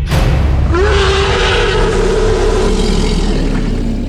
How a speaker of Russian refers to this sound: Издалека донесся пугающий гортанный рев, сопровождающийся гулкой вибрацией земли.